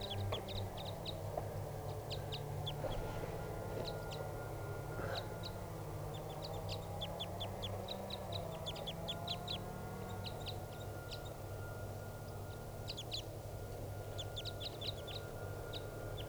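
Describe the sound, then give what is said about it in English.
A wild crossbill, perched at the top of a tall tree and ready to take off, gives bursts of short, sharp, high-pitched chip notes repeated throughout, set over a steady low rumbling hum, with no one speaking. “Recording the bird's calling now, ready to take off.”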